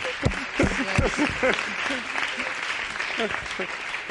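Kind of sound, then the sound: crowd, applause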